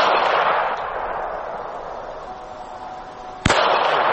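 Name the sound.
gunshots fired at protesters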